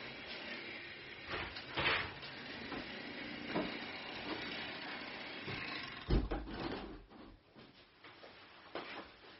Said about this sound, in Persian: ببخشید باز ما این بنای بغل سر صدای زیاد شد، من پنجره رو ببندم سریع.